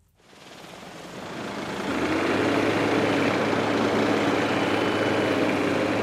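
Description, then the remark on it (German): Heavy diesel machinery rumbles at a gravel pit near Trappenkamp in the Segeberg district, Schleswig-Holstein, where gravel and sand are mined on 40 hectares. Excavators and dump trucks haul material while a machine sorts the stones by size, swelling to a loud, steady engine drone with a deep low hum and broad grinding noise, no voices. “Das, was Bagger und Muldenkipper rankarren, sortiert eine Maschine nach Größe der Steine.”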